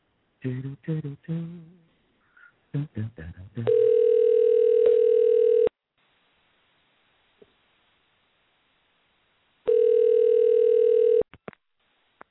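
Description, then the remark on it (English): A telephone tone sounds while a radio host places a call to a listener to put her live on air: two steady, buzzy, mid-pitched tones, each about two seconds long, separated by a few seconds of silence. Brief voice sounds come before the first tone. “Let's see if we can get on the phone here.”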